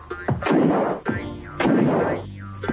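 Two loud explosions of a bridge at the entrance to a village in a PC CD-ROM video game, each a heavy crashing blast that rolls off into rumbling debris, about a second apart, with a brief falling whistle after each.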